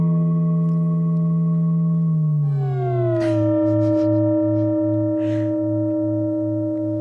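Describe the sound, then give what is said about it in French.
A sustained, eerie bell-like tone rings with layered harmonics, then slides downward in pitch and settles into a lower, warbling drone that pulses steadily, sounding warped and distorted. “Alors, parfois, une cloche victime des démons, bah, c'est encore pire.”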